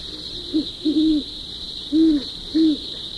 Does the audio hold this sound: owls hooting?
yes